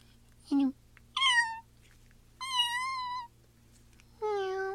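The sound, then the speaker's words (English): A person imitates a cat, giving four separate meows in a row with short pauses, each a drawn-out, pitch-sliding mew with a strong nasal tone, loud against a faint background hum. “Sorry, you got me meowing now. I lied. I am a meower.”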